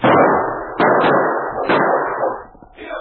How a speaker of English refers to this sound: As Sergeant Preston, King, and Kate stopped where the prospector had been killed, they were suddenly startled by gunshots from the gully off to one side.